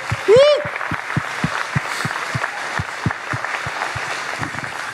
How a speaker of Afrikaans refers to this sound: So kan ons net weer vir al ons mamas 'n groot applous gee.